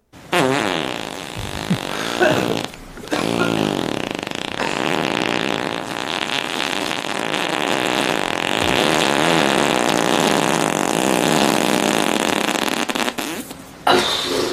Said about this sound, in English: Bring back the Bronx cheer.